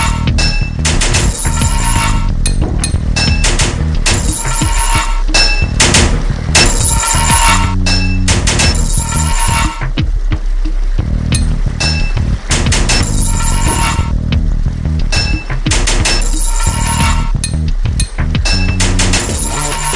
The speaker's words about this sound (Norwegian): 3 pipes in your toolbox. 10 total pipes to fit this level. 3 hits of your hammer to fit a pipe.